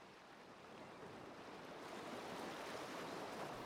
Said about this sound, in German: Die Sonne ging langsam unter über dem Meer. Die Wellen rauschten sanft an den Strand.